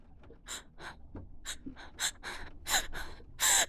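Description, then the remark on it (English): Heavy, ragged gasping breaths come in quick succession, with airy inhales that grow louder and harsher toward the end. No one speaks. “Keep breathing like that for me, okay?”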